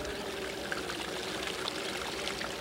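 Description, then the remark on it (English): A steady babble of a stream running over rocks, little stones and small pebbles, a continuous trickle and splash with no pauses, moderately loud and heard alone without any voices. “The water's moving over rocks and little stones and small pebbles.”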